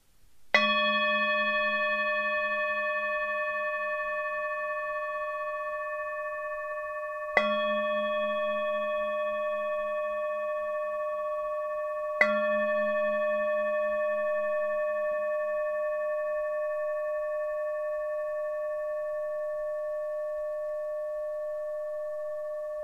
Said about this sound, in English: I'm now going to play the singing bowl. After the third gong, just slowly come out of your practice.